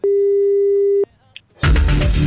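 A single steady telephone tone rings for about a second while a call is being dialed, then cuts off into near silence before a loud, noisy burst of sound takes over.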